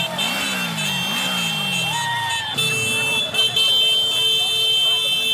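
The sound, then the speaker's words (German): Motorcycle engines rev and rise in pitch while horns honk in long, steady blasts over a loud, continuous clamor of crowd shouting and cheering at a street parade in a gay district, as a group of lesbian motorcyclists passes. “Ich höre nämlich Gerufe.”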